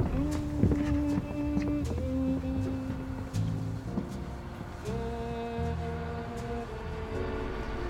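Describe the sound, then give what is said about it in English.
The engine of a 30-year-old boat runs at a dock with a steady droning hum whose pitch shifts a few times, with occasional sharp clicks and knocks over the continuous rumble. “I got the engine running.”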